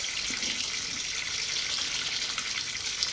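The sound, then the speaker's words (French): Shower water runs in a steady, hissing spray, constant throughout with no pauses, as a man is put under the shower; no voices are heard. “Nicolas est obligé de le sortir du lit et de le mettre sous la douche.”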